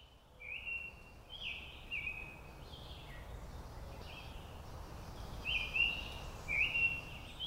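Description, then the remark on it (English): A summer tanager sings a series of short, sweet whistled phrases in a loose, robin-like rhythm over a steady outdoor rumble, with no voices present. “That was a summer tanager in the recording.”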